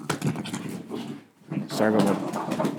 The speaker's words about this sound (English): sorry about my dog.